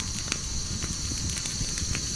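Steady crackling of a campfire, with scattered sharp pops and snaps over a continuous low rumble of burning, fairly even throughout.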